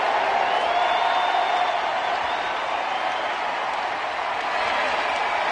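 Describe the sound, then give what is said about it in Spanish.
A big stadium crowd at Miguel Cabrera's final Major League Baseball game roars, cheers and chants "Migi" without pause, a dense wash of voices that holds steady throughout, with a few high whistles and shouts rising above it and no single speaker standing out. “Y la gente gritando Migi, Migi, Migi.”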